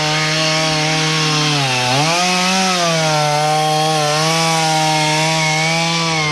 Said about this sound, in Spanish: Lo que se escucha de fondo es una motosierra que está justamente trozando parte del trozo, de algunos trozos que efectivamente cayeron.